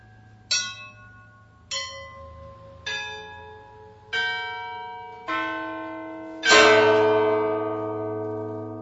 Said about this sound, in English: The largest bell weighs 6,000 pounds. As I understand it, there are only two or three Orthodox churches in the country with large sets of bells. Many Orthodox churches have one bell or two or maybe three, but to have more than three is unusual.